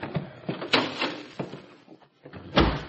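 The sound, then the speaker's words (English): A door opens with a creaking, rattling scrape and shuffling movement, then swings shut with a solid thud at the end, fairly loud with no voices. “Come through this door.”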